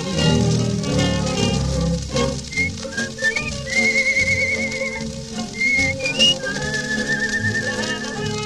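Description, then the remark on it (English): A clear whistled melody rises and holds steady notes over a full musical backing, the tune moving in short phrases before settling into longer sustained tones, part of a song about singing in the bathtub. “I can even whistle and splash around the place.”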